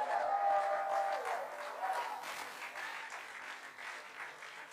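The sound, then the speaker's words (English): A large audience claps steadily in a dense, continuous wash of applause that fades slightly over several seconds, with a faint sustained tone underneath at the start. “If you clap, yours is coming. The better you clap, the better the favor.”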